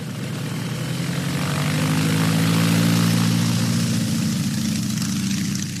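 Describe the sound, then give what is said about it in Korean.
A biplane propeller engine drones steadily, a loud continuous low hum with a rhythmic throb that swells slightly in the middle, as Bessie Coleman learns to fly a biplane at the Caudron brothers' aviation school in northern France. No one speaks. “콜먼은 날개가 위아래로 두 개가 달린 비행기를 조종하는 기술을 배웠습니다.”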